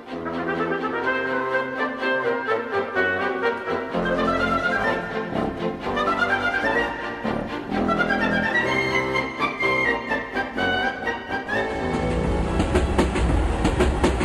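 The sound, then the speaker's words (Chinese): A train rolls steadily along the rails into the Rocky Mountains with a continuous rumble and rhythmic clickety-clack, fairly loud throughout, with no one talking. “12月6号当天，火车进入了落基山脉。”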